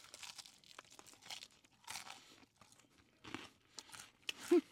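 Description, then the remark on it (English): Crunching as someone bites into Popeyes' new dry-rubbed crispy chicken wings, lemon pepper flavor, and chews, a series of sharp, dry crackly bursts in an uneven rhythm, with no talking. “That John crunchy.”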